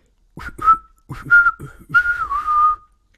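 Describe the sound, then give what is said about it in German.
A person whistles three short warbling phrases in imitation of a bird call, each a sliding, trilling tone with brief pauses between, fairly loud with no talking. “Und um den Vogel zu verscheuchen, hast du, wie ich gerade rausgehört habe in der Vogelsprache, hallo mein Freund, schön, dass du da bist, machst dir gemütlich, gepfiffen.”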